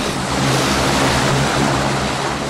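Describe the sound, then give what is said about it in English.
A loud, deafening twin-propeller turboprop plane engine, just started by the pilot at Westchester County Airport before a flight to Boston, roars steadily with a deep droning hum beneath broad, rushing noise, holding constant throughout with no talking. “One of the planes, destined for Boston, is a turboprop with two propellers. The pilot climbs aboard, starts the engine, and sends a deafening noise through the air.”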